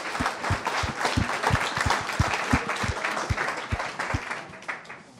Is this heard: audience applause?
yes